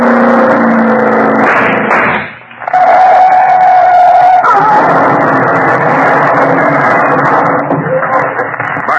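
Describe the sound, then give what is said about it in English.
A car engine roars as the car approaches at around 80, rising in pitch and revving hard, with a brief dip before the loud, steady engine noise returns under a tonal whine. “Here they come. And look at them come. Holy cow, they must be doing around 80.”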